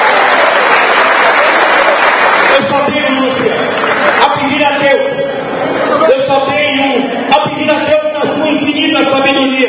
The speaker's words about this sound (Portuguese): Uma salva de palmas para as mulheres. Mais forte do que para as mulheres.